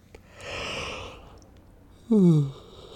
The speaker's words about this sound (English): Well, see, that was only because you yawned.